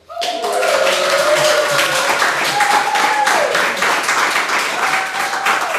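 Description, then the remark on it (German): A live audience bursts into dense, steady applause that stays loud for about six seconds, with a few voices cheering and whooping through the clapping. “Wir haben auch wieder ein tolles Publikum, das zahlreich erschienen ist, um live dabei zu sein.”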